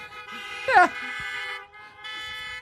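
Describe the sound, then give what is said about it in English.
Several car horns blare together in long, steady honks, with a brief rising whoop-like sound in the middle; the honking dips for a moment and then resumes. “Before you honk your horn and get too fired up, I'm just saying, I'm hoping that it's legal for you to be with us, okay?”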